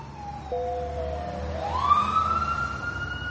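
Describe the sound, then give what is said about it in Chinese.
An ambulance siren wails steadily, its pitch sweeping upward and holding high, with a low rumble of traffic underneath; it grows a little louder as the ambulance arrives to take a patient who is coughing up blood to hospital, in 2005. “救护车呼啸而来”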